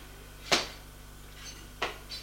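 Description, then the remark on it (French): A door, the one facing the door a man came in through, opening: a sharp latch-like click, then a second, softer clack just over a second later and a faint tap after it, with no voices. “Puis, la porte qui est en face de celle où il est entré s'est ouverte.”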